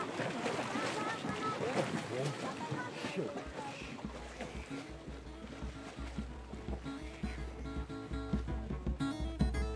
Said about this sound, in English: Going out to our boat that's going to take us to Anakau.